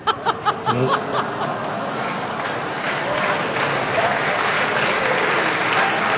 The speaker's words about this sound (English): A begrudging round of applause for Bob and Sarah Chavaka of New Woodstock, New York.